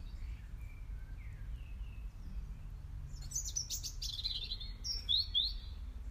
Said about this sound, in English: I don't know what that bird is there. Someone could tell me, but I suspect that no one will or will, I should say.